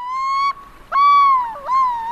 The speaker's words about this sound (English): And this one is called Through the Lens, the Yellow-billed Loon. And it's an amazing bird that is found off the coast of San Francisco. And it has a very distinctive call.